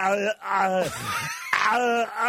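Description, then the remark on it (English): A man's voice imitates Schwarzenegger's agonized, choking scream from the end of the film Total Recall: loud wailing cries broken by a strained, gurgling stretch, then a final drawn-out wail. “That and the screaming at the end of Total Recall.”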